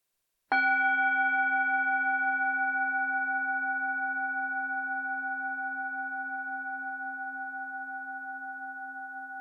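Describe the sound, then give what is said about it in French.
A single bell chime, one of three sounded to begin a guided relaxation, is struck once and left to ring, its clear, steady tone slowly fading over about nine seconds with no voices or other sounds. “Alors après les trois sons de cloche, laissez-vous guider.”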